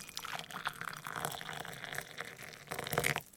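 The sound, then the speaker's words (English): Water pours steadily for a few seconds with a bubbling splash, swelling louder just before it stops, as if filling a cup or glass, water being fetched for a man to drink. “I'll get him some water.”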